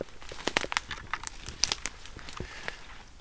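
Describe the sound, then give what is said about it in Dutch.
Dry dead wood crackles and snaps underfoot as people walk through the forest at Tongelaar, a Brabants Landschap estate, a quick irregular series of sharp crunching clicks and crinkles, fairly faint, with no voices. “dat hoeft vandaag niet met al dat dode hout, want het knert en knart als een malle.”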